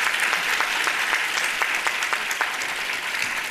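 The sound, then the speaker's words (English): Steady applause from an audience for the speakers and panelists, a dense wash of many hands clapping at an even, sustained loudness for the whole stretch, with no voices standing out. “All right, well, let's give the speakers and panelists a big round of applause.”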